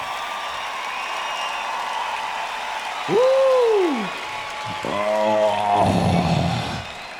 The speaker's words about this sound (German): Applaus für unsere Gefühle.